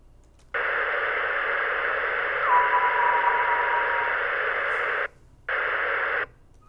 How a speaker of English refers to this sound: The echoes result from reflected radio waves which bounce off the trails of fast-moving meteoroids.